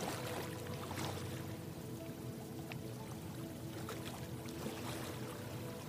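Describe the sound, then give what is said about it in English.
Soft, gentle waves lapping and sloshing at the shore of a sandy beach in a steady, continuous wash, with small splashes now and then, fairly quiet, over a faint sustained tonal hum. “Listening gently, listening to those gentle waves lap at the shore.”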